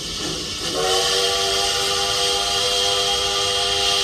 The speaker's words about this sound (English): Yes, you'll enjoy hours and hours of a variety of various trains and railroad sounds, such as diesel horns. American steam whistles.